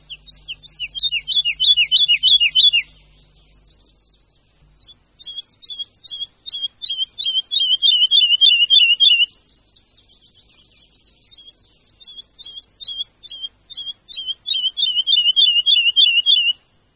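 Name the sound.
woodlark song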